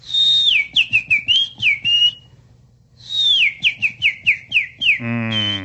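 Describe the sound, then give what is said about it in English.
A man whistles an imitation birdsong: a falling whistle followed by quick chirpy trills, a pause, then the same phrase repeated, ending on a buzzy harmonic note. Clear, with no talking. “He sent us this video of bird sounds, but they are man-made bird sounds, and I have a lot of feelings about this video.”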